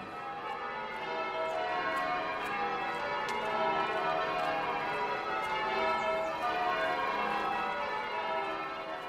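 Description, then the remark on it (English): The ancient church bells of Oxford ring together across the city on May morning in a dense, continuous peal, their overlapping tones washing over one another at a steady volume. “All are gathered to welcome the May, to be revived by the music and the ancient bells of Oxford ringing out across the city.”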